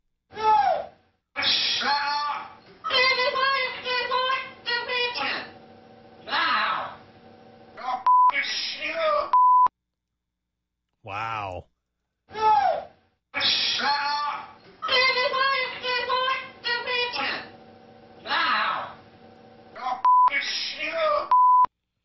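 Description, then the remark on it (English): A parrot mimics a heated argument between a man and a woman in rapid, voice-like squawked phrases, heard twice in a row from a tape played on local news. A short steady beep ends each pass, and a person exclaims briefly in the gap. “Local news played the tape of the parrot to a pet store owner, and she could tell right away it was the parrot actually repeating an argument.”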